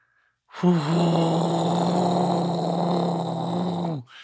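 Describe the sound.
A person imitates an airplane taking off with one long, loud, steady droning hum. The pitch dips slightly at the start, then holds for about three and a half seconds before cutting off.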